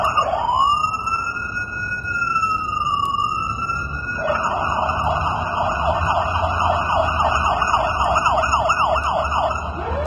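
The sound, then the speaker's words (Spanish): An ambulance siren wails loudly, sliding in a long rising-and-falling tone before switching to a rapid warbling yelp, with traffic rumble underneath. “Yo en mi casa el de la ambulancia, ya pasé dos por tres.”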